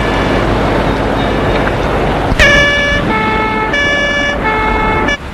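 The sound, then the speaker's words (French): A police car siren cuts in partway through as the police car drives off, blaring a loud two-tone wail that alternates steadily between pitches over a constant rumble of road traffic. “Avec la sirène.”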